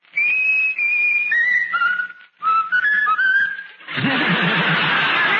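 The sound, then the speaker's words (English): Raffles, a talking bird, whistles a simple melody in clear, pure stepping notes, two short phrases, then breaks off into a harsh, raspy squawk. “Now whistle my country tis of thee, Raffles.”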